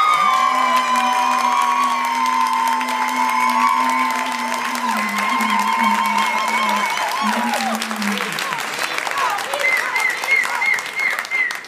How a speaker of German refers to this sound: Euer Applaus für diese Frage.